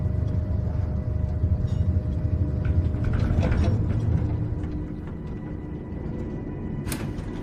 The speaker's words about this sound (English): Carlito opens the tram door and steps back. They step out of the tram.